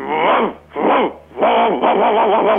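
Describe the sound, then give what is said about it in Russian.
A person imitates a dog barking with a run of loud, drawn-out voiced yelps, about four bursts in close succession, alone with no other talk. “Вот, давайте полайте.”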